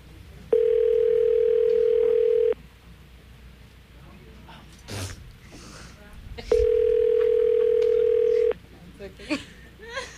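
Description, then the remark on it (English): Two long, steady electronic ringback tones, each about two seconds, separated by a pause, as a prank phone call is placed to a man's father, with faint background chatter and movement between the rings. “It's ringing, brother.”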